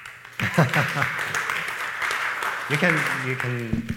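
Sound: audience applause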